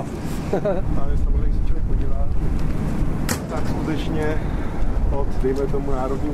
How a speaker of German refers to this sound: Der Wind pfeift ihm um die Ohren.